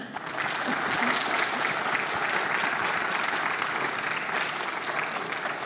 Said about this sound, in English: I think it'll be good to thank them by giving them a good clap.